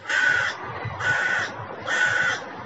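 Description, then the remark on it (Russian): A crow overhead caws three times in a steady, evenly spaced rhythm, each harsh, raspy call lasting about half a second, loud over a faint low background rumble. “это вот ворона какая-то надо мной.”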